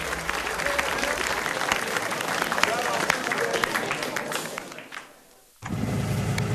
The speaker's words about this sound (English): who holds his hands up and begins the applause. Gangster, cigarette in mouth, claps his hands.